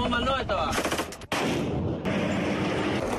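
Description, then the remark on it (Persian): Rapid bursts of gunfire crackle in a battle, loud and dense, with repeated automatic shots over a noisy rumble and a brief break before the firing resumes, as ISIS insurgent fighters fire on Kurdish soldiers advancing toward Mosul, Iraq. “جنگجویان شورشی بر سربازان گلوله باری کرده و حداقل دو موتر جاسازی شده بم را منفجر کردند.”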